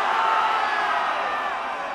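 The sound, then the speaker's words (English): A large audience screams one name together on a count of three, in one loud, sustained roar that holds steady for about two seconds, many voices blending into a single unified shout. “Scream it again. 1, 2, 3.”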